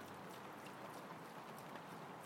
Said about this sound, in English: I think it's been raining most of the night, if not all, because when I went to bed last night, when I brought the dogs out last thing, it was raining then, like this.